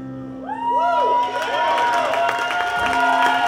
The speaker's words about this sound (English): Thanks. Y'all always yell for that song, man.